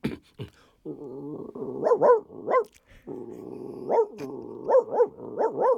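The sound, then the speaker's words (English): A person warming up their voice in a hotel room vocally imitates a dog barking from across the street, producing a series of muffled woofs and yelping barks in uneven bursts, pausing briefly before another rhythmic run of barks. “practicing a dog from across the street.”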